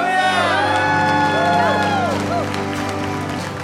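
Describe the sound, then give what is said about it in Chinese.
A large audience shouts and cheers in praise of Jesus, many voices overlapping in loud, sustained whoops and cries with steady, excited energy. “Come on, give him a shout of praise, man.”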